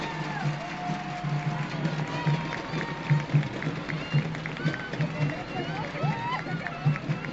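A crowd claps steadily as the Three Kings parade (cabalgata de Reyes Magos) is about to begin, a dense, continuous wash of applause, with voices and shouts mixed in throughout and no clear pause.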